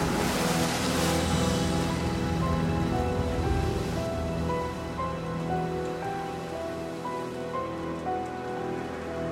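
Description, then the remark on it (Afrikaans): Loud, roaring surf of a stormy sea churns in a dense wash of hiss like heavy rain, strongest at the start and then easing slightly but staying steady, with faint sustained tones underneath and no voices. “En die woede van die see het begin bedaar.”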